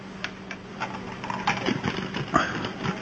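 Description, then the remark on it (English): Someone crunching ice from a drink: a run of irregular, crackly bites and snaps, fairly faint, with a steady low hum underneath and no talking. “No, it was the ice in my drink.”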